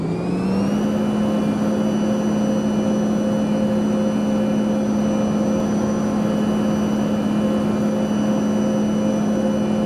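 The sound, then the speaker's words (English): Airliner jet engines spool up to maximum takeoff thrust, their whine climbing in pitch for a moment before settling into a loud, steady roar with sustained high tones that holds throughout, with no voices. “Takeoff thrust. Yep, adjusting for max thrust.”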